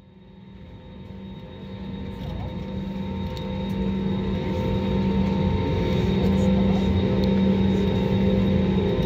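Steady, droning engine hum inside an airplane cabin as it taxis and lines up on runway 7 to depart San Salvador, with a low rumble and a faint whine that gradually grow louder and fuller.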